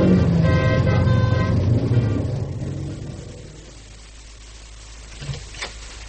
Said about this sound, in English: Traffic very heavy this morning.